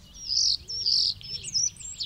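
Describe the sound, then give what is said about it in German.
A starling sitting on a branch outside a window chirps and twitters in a run of bright, high, warbling phrases with only brief gaps between them, over a faint low background rumble. “auf einem Ast vor dem Fenster saß er, Mozarts Star, und zwitscherte ihnen fröhlich zu”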